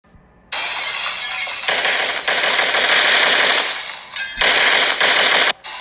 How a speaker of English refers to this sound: Screams and the sound of gunshots ring outside the bathroom.